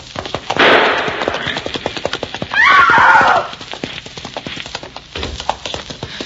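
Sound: galloping horse hooves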